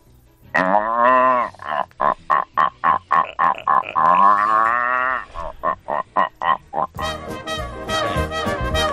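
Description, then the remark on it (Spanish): A man's voice imitates a rutting deer's bellow: long, strained groaning calls followed by a rapid series of short grunting pulses, loud, ending in a rougher roar. “Bueno, pues, bien si quiere, le imito al venado para contestar al que...”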